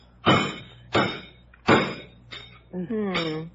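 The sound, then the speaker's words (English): Four heavy chopping whacks land at a steady, deliberate pace as a tough roast turkey is carved in the kitchen, a wing coming off, followed by a short voiced exclamation, with a low hum underneath. “Jeeves is in the kitchen carving it now.”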